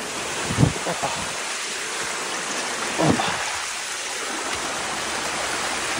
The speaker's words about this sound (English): So, guys, we're going up the stream, looking for a place to take in water. The difference in altitude here is simply huge.